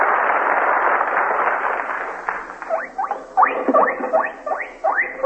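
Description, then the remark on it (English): A pig squeals over and over in loud bursts of high, wavering cries, following a few seconds of rough, rustling noise, with no one speaking. “Oh, that's the squeal of a pig, Aloys.”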